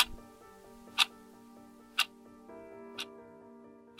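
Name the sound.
clock ticking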